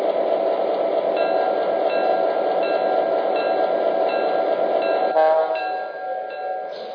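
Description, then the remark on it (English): A passenger train, the Midwest Hiawatha, train number 103 arriving from Chicago on track 1, rolls into the Marion station platform, a loud steady rumble with thin metallic whines, shifting to a squealing tone near the end as it slows and quiets. “arriving from Chicago on track 1, train number 103, the Midwest Hiawatha.”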